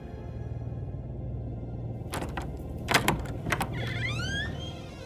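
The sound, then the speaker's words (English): A bedroom door creaks open at night over a low steady hum, starting with a few sharp latch clicks and knocks, then a thin, wavering squeak of the hinges that rises and falls. “as Zagreus lay in bed, he heard his bedroom door creak open”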